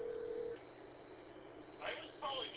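Over a narrow, phone-line sound, a steady single dial tone holds for about half a second, then after a brief hiss come short bursts of higher tones near the end.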